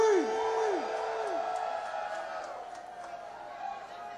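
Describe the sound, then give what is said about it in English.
A large concert crowd in New Orleans screams and whoops together when the band asks for a scream, a dense wash of cheering voices with a few rising-and-falling yells near the start, sustained at steady volume and fading slightly toward the end. “Give me a scream!”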